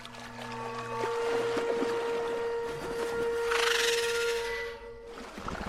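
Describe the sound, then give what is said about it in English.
Water splashes, bubbles and churns at night toward the center of a lake in the distance, swelling into a louder rushing burst near the end, over a steady droning hum. No one speaks. “Suddenly, some loud splashing. In the distance, towards the center of the lake, water bubbled.”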